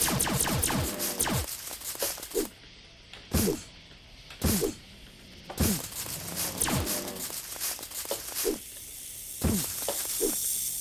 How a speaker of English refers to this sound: Snake.